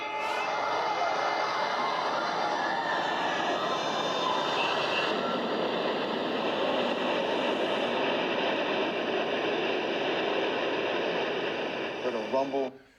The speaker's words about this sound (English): All right, so this is the buildings coming down on 9/11. Watch how they come down. It's very strange. The North Tower came crashing down.